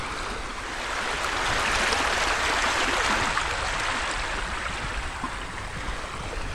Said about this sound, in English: We're about to cross the local creek here. You can check out the water. I love the sound of water.